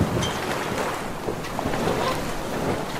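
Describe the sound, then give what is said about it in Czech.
A 10-metre sailboat, about 3.5 metres wide, sails along a harbour breakwater and out between two signal lighthouses onto the open sea, with steady wind buffeting the microphone and waves washing against the hull in a continuous, fairly loud roar. “Za posledním molem to stáčíme vpravo, proplouváme podél přístavní hráze a výjezdem mezi dvěma signálními majáky se pouštíme na širé moře.”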